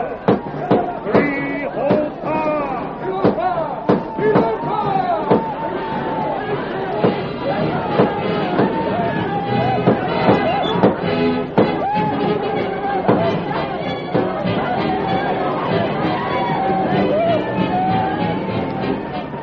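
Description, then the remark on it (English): Sharp gunshots crack again and again as outlaws ride down on a village, guns blazing, over a dense, agitated crowd of villagers tumbling from their tents, with many voices shouting, yelling and whooping at once in a continuous loud uproar. “The outlaws thundered down upon the village, their guns blazing.”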